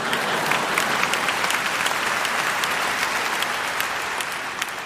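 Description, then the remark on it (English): An audience applauds steadily for about five seconds, a dense, even wash of many hands clapping with sharp individual claps poking through, and no voices audible. “No clapping there, huh?”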